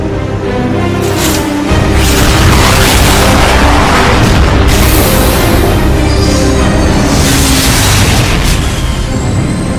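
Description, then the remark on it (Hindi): Loud, continuous weapon fire and explosions fill the whole stretch, with deep booms rolling over crackling bursts and a dense, sustained roar; no voices are heard. “जनाब, नए ऑर्डर्स की रिसीविंग कंफर्म। फायर करो।”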